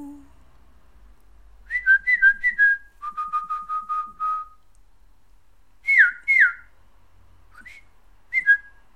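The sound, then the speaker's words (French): Someone whistles an imitation of a birdcall: quick, chirpy rising notes, then a steady run of short repeated tweets, followed by a few scattered pairs of swooping chirps separated by silence. “Oh, vous entendez? C'est un oiseau.”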